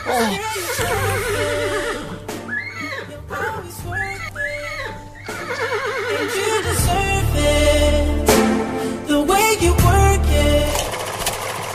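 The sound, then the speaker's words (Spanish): A horse neighs and whinnies several times in quick, wavering bursts, then a loud low mechanical rumble like an engine sputtering and revving takes over, with no talking. “Le costaba arrancar al caballo.”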